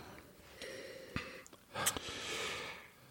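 A series of wet nasal sniffs from someone coming down with a cold: several short sharp inhalations through a congested nose followed by a longer drawn-in sniff, with no talking.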